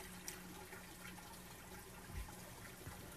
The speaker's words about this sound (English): If I put this sign over the faucet, it doesn't turn it on, does it? No. My hand on this knob turns the water on, though.